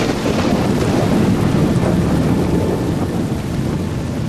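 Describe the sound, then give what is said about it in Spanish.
A steady roar of heavy rain with a deep, continuous rumble of thunder underneath, loud throughout, with gusty wind noise and no voices. “Otro día sin pesca. Qué tirada. Y con esta tormenta que viene.”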